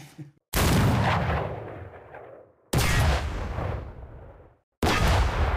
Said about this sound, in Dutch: Ik heb er 3 af laten vuren. Nee, door de meester kanonnier.